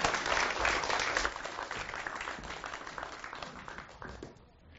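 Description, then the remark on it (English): A crowd applauds to thank a guest who travelled from Cambridge to share his story, a dense, steady patter of many hands clapping, loud at first and gradually thinning and fading toward the end. “But can we give him a round of applause to say thank you?”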